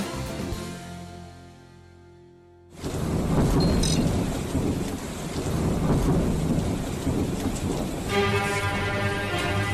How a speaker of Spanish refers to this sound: Alguna casa seguramente esta madrugada se podía vivir con Vivaldi de fondo, situaciones de estas así de relámpagos y truenos, ¿eh?